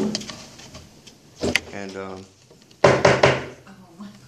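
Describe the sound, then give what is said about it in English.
A door bangs and clatters shut, with a sharp thump followed a moment later by a louder burst of rattling, while muffled voices murmur in the background. “Back door. Other door.”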